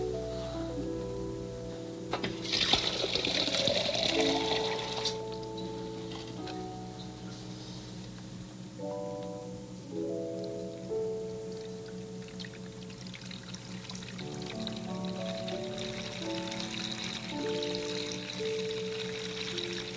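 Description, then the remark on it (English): Water pours steadily into a container for about twenty seconds, filling it up to a marked level, a continuous splashing stream with a hollow resonant tone that shifts in pitch as the vessel fills. No one speaks. “And we're supposed to fill it up to about here with water.”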